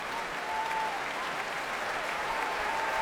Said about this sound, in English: Every member of the Bournemouth Symphony Orchestra also applauding.